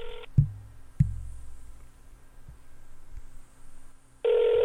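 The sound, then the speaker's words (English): A telephone ringback tone heard through a speakerphone while calling someone's mother on her birthday, with one short burst at the start and another near the end, separated by a long pause with a couple of soft thumps. The ringing is quiet and the call goes unanswered. “It's ringing. It's not even going to pick up.”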